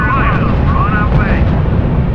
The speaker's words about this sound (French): Ah bah, les tanks se sont fait attaquer carrément par les avions.